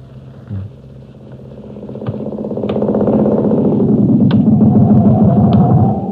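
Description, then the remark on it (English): A motorcycle engine rumbles steadily and grows louder over several seconds, its throaty drone building as though revving up, with a few sharp mechanical clicks on top. “Go right into the motorcycle.”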